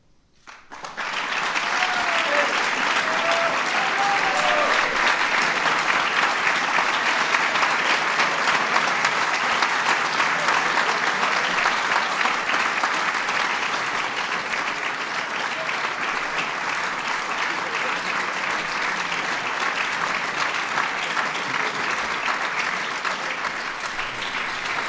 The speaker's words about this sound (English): Ladies and gentlemen, please give a big round of applause to all the honorees.